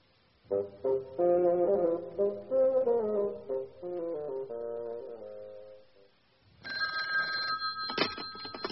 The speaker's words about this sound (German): Ah, das Telefon.